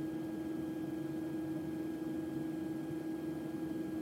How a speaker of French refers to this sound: Donc dans leur chambre, ils ont un système qui permet de diminuer le volume du son ou en tout cas de faire un son qui est plus agréable pour dormir. On appelle ça un bruit blanc et on va te le faire entendre.